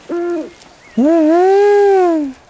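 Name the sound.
tawny owl call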